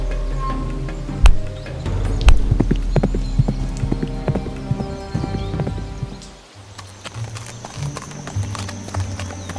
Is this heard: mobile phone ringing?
no